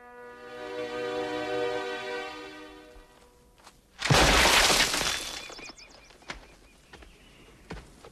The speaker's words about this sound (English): Suddenly, a rock smashes against a boulder nearby.